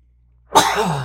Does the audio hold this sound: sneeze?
yes